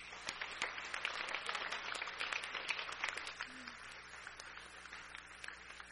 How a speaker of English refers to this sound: feels appropriate to me for us to raise a clap offering to God for the work that God's Spirit has done in and through these youth leading us this morning. Can we do that?